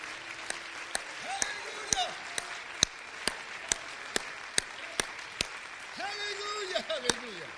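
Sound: audience clapping hands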